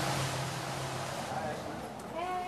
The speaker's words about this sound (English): Oh, that's the bus.